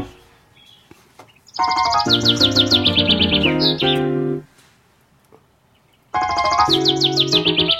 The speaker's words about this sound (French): Et voilà les oiseaux. C'est un rossignol, hein.